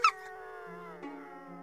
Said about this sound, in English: Crack the window. Let him hear the wolves.